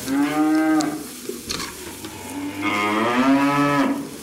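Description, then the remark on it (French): Two long, loud moos from Prim'Holstein dairy cows on the GAEC d'Opiac dairy farm near Camarès in southern Aveyron, France, each drawn out over about a second, separated by a short pause filled with faint background noise. No one speaks. “En vache laitière Primo Holstein”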